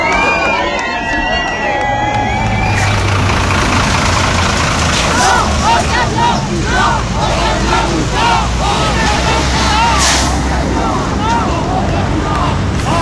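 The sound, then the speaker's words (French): A heavy truck engine idles with a steady low rumble throughout, while a crowd of people who were sitting in front of the truck stand up, talking and calling out over it outdoors, with some wind buffeting the microphone. “Parce que si je reste toute seule assise devant le camion, il va me rouler dessus et j'ai envie de lutter encore longtemps.”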